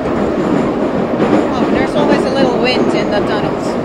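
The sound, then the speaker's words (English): A subway train with its windows open roars along at full speed, a loud, steady rumble with brief metallic squeals rising above it and muffled voices buried in the din; the cars are not air-conditioned. “But let me just tell you, it's loud, it's fast, it's hot too. They're not air-conditioned.”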